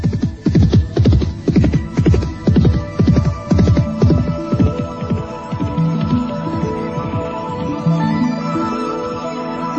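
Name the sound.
horse galloping hooves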